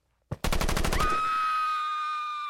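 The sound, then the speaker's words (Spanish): A single sharp shot followed by a rapid burst of about ten loud gunshots exchanged back and forth between two sides, then a high metallic ringing tone that lingers and slowly fades. No voices. “Disparos de un lado a otro.”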